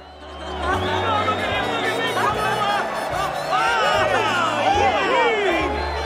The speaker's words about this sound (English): The grand piano sits on the stage as soldiers and sailors pile excitedly into the auditorium. They all wave and whistle at Tallulah Bankhead as she enters on Cole Porter's arm.